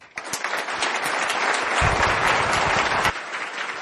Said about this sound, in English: So please, let's just give a huge round of applause to every one of them, because they were fantastic. They so delivered.